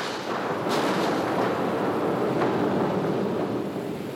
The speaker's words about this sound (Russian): И в ту же минуту раздался взрыв оглушительной силы.